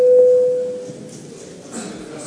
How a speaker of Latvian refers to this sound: Lūdzu zvanu.